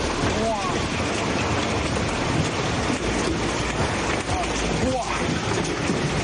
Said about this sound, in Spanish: Así caía ayer el granizo en Albaida.